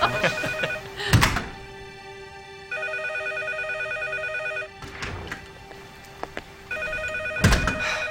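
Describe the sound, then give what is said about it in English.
A telephone rings in repeated electronic bursts, with pauses between rings, while heavy thumps and bumps sound at the start and end. “What about the phone? If we hurry, it will probably stop ringing.”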